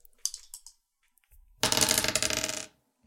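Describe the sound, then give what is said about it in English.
A few light clicks, a brief pause, then a dense, bright clatter of dice being re-rolled for a strength roll, tumbling and rattling across a hard tabletop for about a second before settling. No voices. “I'm gonna re-roll that.”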